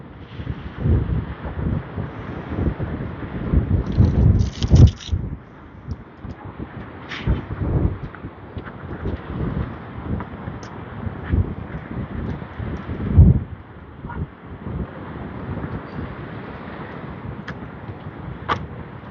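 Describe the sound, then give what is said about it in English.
Strong wind roars and buffets steadily for the whole stretch, with low rumbling gusts surging and easing in uneven waves. No voices are heard. “I think I hear geese, but I can't tell over the wind.”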